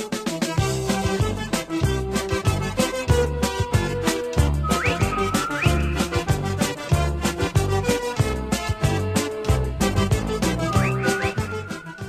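A bouncy, steady-beat chicken dance tune plays loudly and continuously, with a slide whistle swooping upward twice over the oompah-style rhythm. No one speaks.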